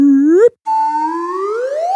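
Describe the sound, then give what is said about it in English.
A slide whistle sound effect plays two upward glides: a short rising swoop, a brief break, then a longer, steady climb from low to high pitch, bright and airy with no voices. “And I was wondering that, you know, with one or two or three or four Pinocchios, there is a sound effect associated, a slide whistle.”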